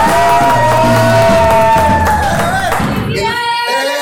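A loud, dense burst of crowd cheering with shouts and whoops over scattered applause, sustained for a few seconds before thinning out abruptly near the end.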